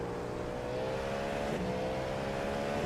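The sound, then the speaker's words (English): A race car engine drones loudly and steadily for a few seconds, its pitch climbing gradually as it revs, with no voices over it. “Okay, AJ, the next car is Orozco.”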